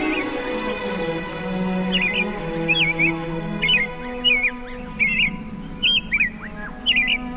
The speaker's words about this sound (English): They just come here for the winter. He's got a black and white V on his back. He's really showing off for us, isn't he? Yeah, you don't often see those, so you're very, very privileged. It's just a lovely little bird, isn't he?